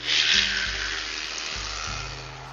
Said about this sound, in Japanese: いや、ごめんなさいね。今ちょっと解体工事中です。ちょうどドリルがうるさかったんですけどね。